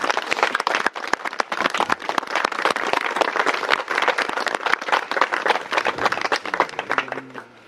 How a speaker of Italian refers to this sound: Ecco, per queste persone facciamo un bel applauso, eh?